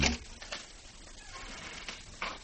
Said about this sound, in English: Listen, I think I hear somebody coming. Probably the coroner. He's late. That's a woman's footsteps. Yes, it is.